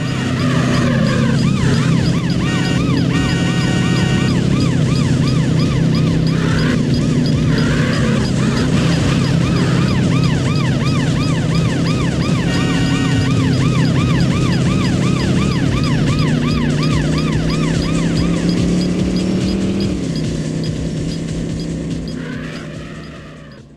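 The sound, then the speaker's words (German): A wailing police siren sweeps up and down over a loud, steady engine roar as a luxury sports car races through a realistic landscape in a racing video game, chased by police; the siren stays prominent throughout, fading slightly at the end. “Du setzt dich in diesen Luxussportwagen, du drückst das Gaspedal durch, du rast durch eine realistische Landschaft, die Polizei im Nacken und dein Konkurrent an deiner Seite und dann guckt er, wer sich am besten durch den Verkehr schlägt.”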